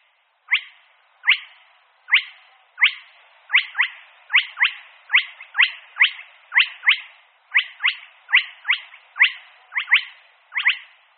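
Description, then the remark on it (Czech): A spotted crake, a secretive blackbird-sized bird living hidden in the shore vegetation of ponds and lakes, calls alone: a long, steady series of sharp, whiplike rising notes repeated about twice per second, loud and evenly spaced, like a dripping water whistle. “Přesto je původcem tohoto hlasu pták, a to pták velmi skrytě žijící v pobřežní vegetaci rybníků a jezer, asi jako kos velký chřástal kropenatý.”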